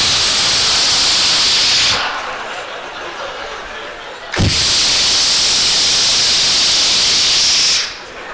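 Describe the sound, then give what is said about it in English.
A voice imitates milk squirting from a cow's udder during hand milking, with long, loud, breathy hisses: one steady burst, a softer dip, then a second strong hiss after a brief sharp break. “It was like, you'd just squeeze it and go psst.”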